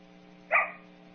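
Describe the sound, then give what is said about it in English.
A single short dog bark of the isolation type, fairly loud, rising out of a quiet steady hum and fading quickly, with no further barks following. “The difference between isolation and play is that usually isolation occurs in single barks, or the clusters are shorter.”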